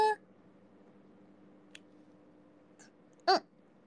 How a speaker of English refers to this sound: I hope you don't hear the small burp.